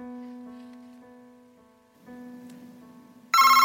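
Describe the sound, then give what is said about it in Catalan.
A mobile phone ringtone plays a steady electronic tone that fades slightly, then jumps to a much louder, brighter burst of ringing near the end, with faint rustling underneath. “Home, no, els telèfons apagats. Qui? És vostè? No, el telèfon, sisplau.”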